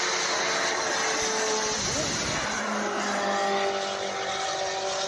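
A loud, steady jet engine roar from a jetpack flying over a Belgian F1 race track, faster than the race car, fills the scene, its whine sweeping in pitch as if passing by, with a dense rushing hiss and no voices.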